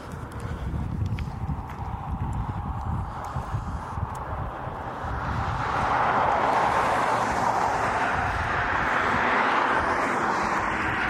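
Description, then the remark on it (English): A small airplane engine, just switched on, runs steadily at Circleville, a loud rough drone that swells noticeably louder about halfway through and holds there with no voices. “Okay, engine's on.”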